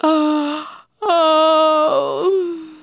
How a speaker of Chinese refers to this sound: 他们就点着灯继续等着，但是实在太累了，就一个个张大着嘴巴打着哈欠。